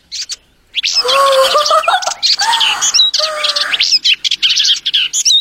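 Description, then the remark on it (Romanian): A large flock of hungry sparrows chirps busily and loudly, overlapping bright tweets and short trills coming in repeated bursts with brief gaps, and no voices. “Vrăbiuțelor, ce vreți să vă fac? Sunteți multe și flămânde, vă cred.”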